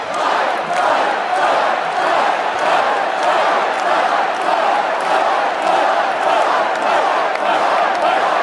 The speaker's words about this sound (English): Once my clenched fist went up, and it was high into the air, you've all seen that, the crowd realized I was okay and roared with pride for our country like no crowd I have ever heard before.